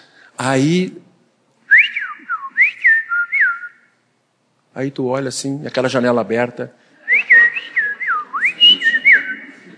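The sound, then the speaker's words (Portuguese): Fluty, whistled phrases of a sabiá thrush outside a window rise and fall in two short bursts of song, alternating with and partly overlapping a person speaking. “É um sabiá.”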